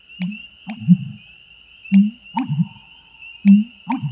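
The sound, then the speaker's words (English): An American bittern's deep booming call: three repeated series of low, gulping, pump-like notes at a steady rhythm, with a thin, steady high tone in the background. “This bird's deep, resonant calls have earned it nicknames like the Thunder Pumper and the Stake Driver.”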